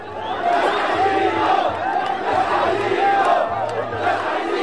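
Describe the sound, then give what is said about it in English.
Dozens of people at a polling center in a poor district of Cairo shout together in a loud, rhythmic protest chant, "we don't want him," as Mohamed al-Baradei arrives to vote. Many voices rise and fall in repeated bursts over a dense, steady roar. “Dozens of people shouted, we don't want him, as potential Egyptian presidential candidate Mohamed al-Baradei arrived to vote at a polling center in a poor district of Cairo.”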